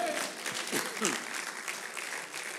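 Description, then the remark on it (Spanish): An audience stands and applauds the Lord with steady, dense clapping that holds an even level throughout, while a few voices briefly rise and call out early on. “Póngase de pie y aplauda un rato al Señor.”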